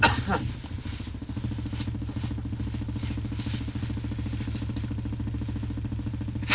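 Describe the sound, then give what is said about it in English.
A car engine runs with a steady, low-pitched rumble and faint mechanical clatter, holding an even level throughout as the car pulls out of a parking space. “There's a car coming out, so it should change colour.”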